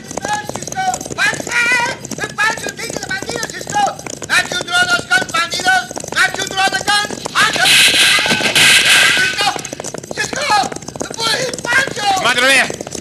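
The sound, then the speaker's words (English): A thundering rush of hooves from a stampeding cattle herd and galloping horses with riders fills the scene, loud and continuous, with shouting voices over the top and a burst of dense noise midway. “Be careful, Pancho. Do not get in front of the herd.”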